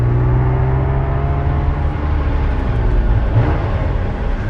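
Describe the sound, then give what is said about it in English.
A car engine drones steadily, a low rumbling hum with a faint rising pitch as the car speeds up along a street past dark shop fronts, with no voices. “Dark shop fronts whiz past as he speeds up.”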